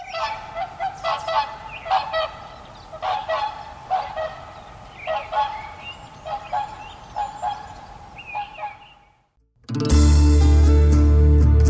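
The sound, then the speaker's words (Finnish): A nesting pair of swans trumpet in a loose series of loud, brassy honking calls, overlapping, announcing to passing swans that their nest site by the water is taken, before the sound cuts abruptly to loud music near the end. “niin sen jälkeen ne parkkeerasi siihen ja ilmoitti kaikille ohilentäville joutsenille toitotuksella, että tämä on meidän, tämä on varattu.”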